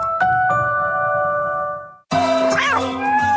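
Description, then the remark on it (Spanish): Two bright chime-like tones ring out and slowly fade, then after a brief gap a cat, Michi, meows once, fairly loud, its pitch rising and falling, in an advert for Laika, an app delivering cat litter. “No te apures, Michi. Estás a un silbido de recibir la arena que necesitas y la puedes recibir el mismo día.”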